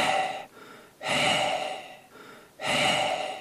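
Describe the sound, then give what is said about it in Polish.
A voice imitates the heavy, rhythmic panting of a parish priest hurrying on a bicycle, three loud breathy gasps separated by shorter quieter breaths, with no words spoken. “Tak dyszy proboszcz. Dyszy, bo jedzie rowerem.”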